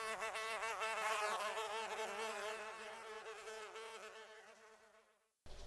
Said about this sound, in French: L'air vibrait, et les mouches semblaient vouloir se donner rendez-vous sur mon dos.